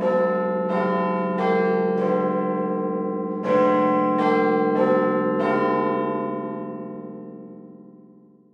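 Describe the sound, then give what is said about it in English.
Big Ben, the bell inside a 96-metre clock tower with four clock faces, rings the hour with a chiming melody: two phrases of four deep, resonant strikes, each note overlapping the last, then a long shimmering decay. Loud and clear, with no voices. “The name refers to the bell inside the clock. You can hear the bell every hour.”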